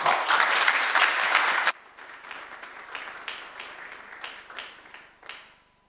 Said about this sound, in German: In diesem Sinne einen kräftigen Applaus für